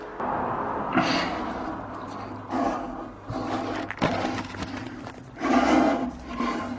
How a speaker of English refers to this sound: You can hear him breathing in the bowl.